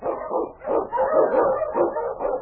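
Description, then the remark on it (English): A pack of husky sled dogs barks and yips excitedly, overlapping calls in a steady, busy chorus that stays loud throughout, as the team led by King is urged on in the Yukon. “On your huskies!”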